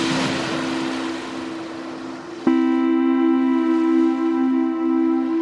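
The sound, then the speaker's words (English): A boat's motor drones steadily over rushing water and wind while crossing the water to Norfolk, Virginia, where the James River meets the Chesapeake Bay. The motor surges louder and higher partway through, holding a strong, continuous hum to the end. “You have to cross water to get to Norfolk.”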